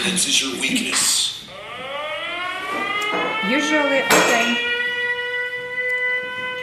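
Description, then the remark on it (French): An air raid siren, the fifth air alert of the day, warning of a missile attack, winds up into a steady, rising wail that holds a high sustained tone, while people talk briefly at the start and in short bursts over it. “Rencontre avec sa directrice en pleine alerte aérienne, la cinquième de la journée.”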